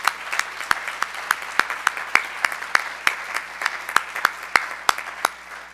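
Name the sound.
audience applauding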